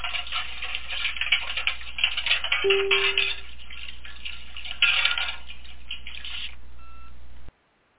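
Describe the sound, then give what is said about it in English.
A clock ticks steadily and busily for several seconds with no voices, a short low tone sounding partway through, before the ticking cuts off abruptly. “And it before we get into that, the clock is reminding me that it is time for a little housekeeping.”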